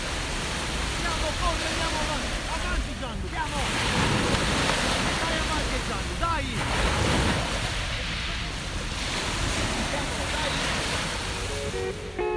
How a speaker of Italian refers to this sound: E mentre mi facevo cullare dal rumore delle onde sul bagnasciuga